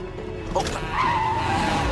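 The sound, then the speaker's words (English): A BMW's tires screech loudly in a long, wavering squeal as it brakes to a halt at a red light, narrowly missing a truck. The squeal starts partway through and holds steady to the end, over a low rumble of engine noise. “They screech to a halt at a red light, narrowly missing a truck.”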